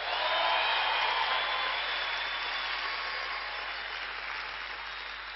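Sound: audience clapping hands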